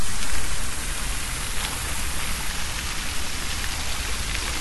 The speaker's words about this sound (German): Also, die Fontäne ist sehr schön. Aber das ist hier alles leider aus Beton und dadurch sehr grau. Das Wasser ist aber ungefähr hier sogar 30 cm hoch. Vielleicht könnt ihr das Wasser ja sogar hören. Wir machen mal lauter.